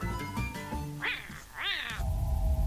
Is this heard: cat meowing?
yes